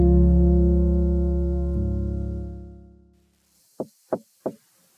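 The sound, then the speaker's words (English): A sustained, low harmonic tone fades out, then three sharp, evenly spaced knocks on a door ring out clearly in the quiet. “It's a decolonial auntie at your door.”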